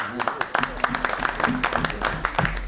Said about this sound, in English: No, Mr. Chair. It's another thing we can do in committee is clap. And members, it's former Senator Gary DeKramer joining us here.